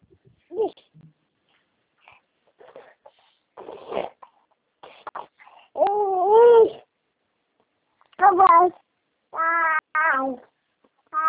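A cat meows repeatedly at close range, a few short calls and several drawn-out, wavering meows in quick succession, with faint rustling and small noises between them.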